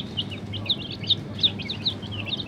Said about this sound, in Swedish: Och bredvid och så står en kund, du har köpt kyckling, och om du trycker på den där röda knappen så ska du få ett litet gulligt kycklingljud.